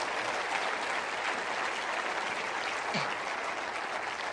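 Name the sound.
audience applauding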